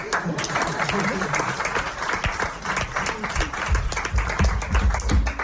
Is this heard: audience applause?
yes